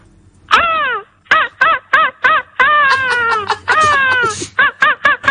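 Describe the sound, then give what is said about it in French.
A person, a 2024 world champion of seagull-cry imitation, imitates an angry seagull's harsh, agitated cry: a long descending squawk, then a rapid series of short yelping calls and longer wavering wails, loud with no talking. “Attention, démonstration du champion du monde de cri de la mouette, de champion du monde 2024.”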